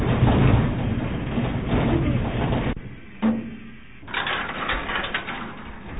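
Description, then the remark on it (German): A steady mechanical rumble of a mine cage on a cable ride down to the 740-metre level cuts out, followed by a single metallic clank, a brief lull, then the rattling, scraping slide of heavy doors opening onto the underground arrival hall. “Das Startsignal und gleich geht's los. Deshalb spricht man auch von Seilfahrt.”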